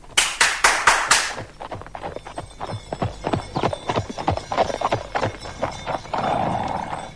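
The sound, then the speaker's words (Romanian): Hooves of a horse-drawn carriage clip-clop in a steady rhythm, opening with a few loud, sharp strikes and trailing into a soft rumble of wheels. “Vă mulțumesc, însă eu doresc numai o trăsurică, un cal și o pereche de pantofi, pentru că vreau să plec iar în lume și să-l caut pe Chei.”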